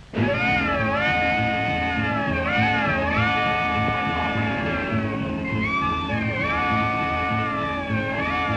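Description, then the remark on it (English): During a rehearsal led by a bandleader, a saxophone section imitates an express train whistle, not a freight train, repeatedly sliding into loud, wailing held chords over a steady pulsing rhythm for the whole clip, with no voices. “Now, come on, give it to me with that, you know, that express train effect. Clear up that whistle. Let me hear that whistle in the saxes once more.”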